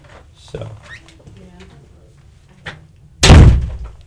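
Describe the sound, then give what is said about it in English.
A door is unintentionally slammed shut with one loud, heavy bang that rings briefly before fading, after a few seconds of faint shuffling and soft handling noises. “That was a rather dramatic door closing.”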